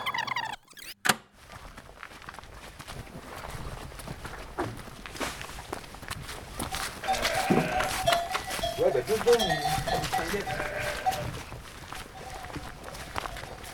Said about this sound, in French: Mademoiselle les brebis, on y va? Allez à gauche. Oh, brebinette.